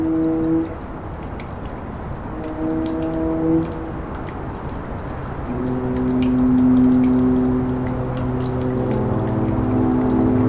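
A dripping tap with quick, irregular drops splashing steadily throughout, recorded by Mary Willis, layered over long, low droning foghorn tones, recorded by Ben Trefney, that swell and overlap. No one speaks.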